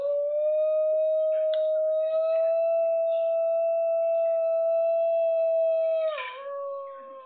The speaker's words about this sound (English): So here we go. A singing dog here. Let's hear.